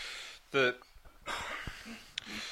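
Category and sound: human body sound, throat clearing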